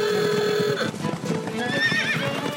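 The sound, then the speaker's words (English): A horse lets out a loud, wavering whinny, then neighs again while hooves clip-clop steadily on a hard surface. “Engine-powered machines have replaced the horse in a number of ways, but horses have been our companion and helper for thousands of years.”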